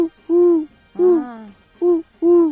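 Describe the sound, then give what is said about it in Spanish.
Someone imitates a perched wood pigeon's cooing with four clear, low hooting phrases in a halting rhythm, a longer sliding coo in the middle, and nothing else in the background. “Concretamente la paloma torcaz turca, y tú lo has oído por ahí, porque Lo de turca me parece que lo he añadido yo de motu propio, pero es la paloma torcaz pero en vuelo, porque cuando está parada hace...”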